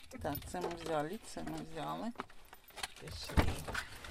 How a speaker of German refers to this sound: Angekommen an der Backstube, klettert sie aus dem Auto.